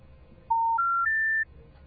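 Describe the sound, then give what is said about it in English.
The telephone special information tone: three rising electronic tones, each a clean steady pitch stepping higher, played one after another in about a second against a quiet background hum. Loud, with no talking. “So, once again, here's the special information tone.”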